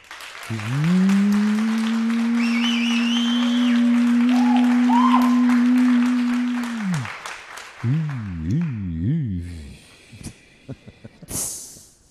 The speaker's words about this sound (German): Ist das Applausometer bereit? Ja. Okay. Sorry. Jetzt erstmal euer Applaus für André und seine Verlobte.